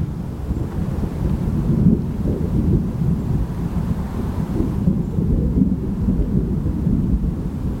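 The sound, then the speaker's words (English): Deep, continuous thunder rumbles steadily through the whole stretch as rain approaches, a low rolling roar with some wind buffeting the microphone and no voices. “Can you hear that thunder?”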